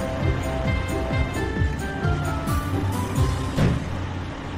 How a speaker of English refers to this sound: First, the crane is driving to the construction site. The crane lifts part of the track and puts it in place.